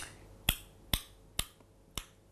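Four sharp tongue clicks made with the mouth for echolocation, listening for the echo to find a small book held beside the head, spaced roughly half a second apart at a steady, deliberate pace, each crisp and bright against a quiet background with no talking.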